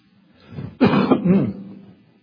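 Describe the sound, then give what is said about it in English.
A man coughs and clears his throat in one rough, gravelly burst lasting about a second, fairly loud, with no speech over it, during a Bible study on Romans at Cliffside. “We have no cough button here at Cliffside. You're going to be miserable right along with me.”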